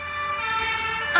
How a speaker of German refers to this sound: 5 Feuerwehrautos. Wo wollen die denn hin?